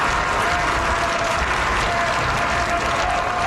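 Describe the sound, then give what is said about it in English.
A large crowd gathered outside Rome's Gemelli Hospital claps steadily as Francis, in a wheelchair on the balcony of his room, blesses them; a dense, continuous wash of applause with faint cheering mixed in and no speech over it. “He was pushed out onto the balcony of his room in a wheelchair and blessed the crowd gathered outside the hospital.”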